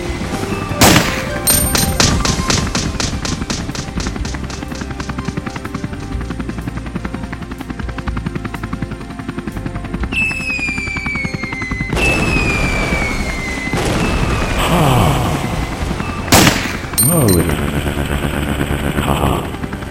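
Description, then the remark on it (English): Gunfire and bomb blasts in the video game Chopper Challenge, with a helicopter dropping bombs while the player shoots at the copter man: rapid repeated shots, booming explosions and a constant chopper drone, loud and dense with no talking. “helicopter's bombs and trying to shoot the copter man. It's a really stupid game.”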